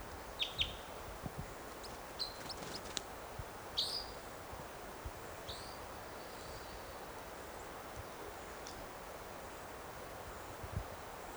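bird chittering

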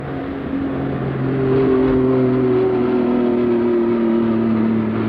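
airplane flying overhead

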